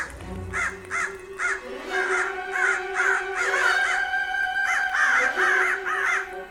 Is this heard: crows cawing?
yes